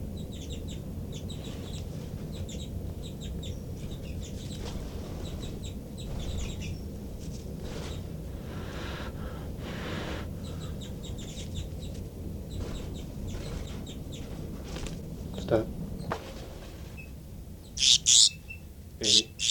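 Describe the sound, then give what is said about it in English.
A baby bird gives repeated high, sharp alarm calls in a steady series, ending with a few louder, harsher bursts, all over a low, continuous background rumble. “Start recording alarm calls of a baby bird.”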